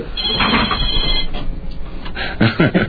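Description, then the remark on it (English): A telephone rings during a live on-air broadcast over steady background noise, with a voice briefly chiming in near the end; the ring sounds moderately loud. “It's not supposed to be ringing when we're on the air, but anyways.”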